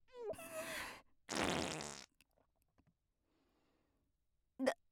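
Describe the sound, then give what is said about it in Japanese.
Two long, loud bursts of flatulence from a middle-aged woman in a stuffy, humid closed room. The first has a rising squeaky tone and the second is a broad rough blast, followed by quiet, then a short sharp squeak near the end. “密室でムシムシしてるのに、おばさんのおならでもっと蒸し暑くしちゃって。”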